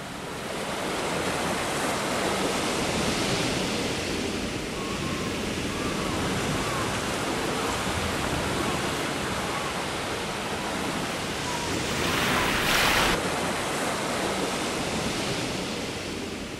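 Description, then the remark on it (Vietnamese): Continuous rushing sea water fills the scene, a steady wash of surf, with a brief louder splash near the end as a turtle dives deep into the sea. No voices. “Rùa nói, rồi lặn sâu xuống biển.”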